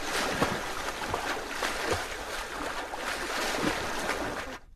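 A swimming pool water sound effect: water sloshes and splashes steadily, like a swimming pool being stirred, with a dense hiss broken by brief louder splashes. No one speaks, and the sound cuts off abruptly at the end.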